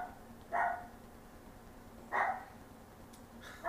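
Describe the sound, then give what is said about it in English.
A dog barks three times, sharp single woofs spaced more than a second apart, over a steady low background hum with no one talking. “Wanna go check on your dog?”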